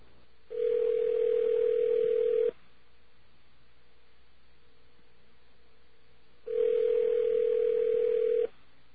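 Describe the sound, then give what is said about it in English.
A telephone ringback tone heard over a Net2Phone Direct internet phone call: two long, steady, mid-pitched tones, each about two seconds, separated by a roughly four-second pause, with no one speaking. “I can make that out. It's a ring.”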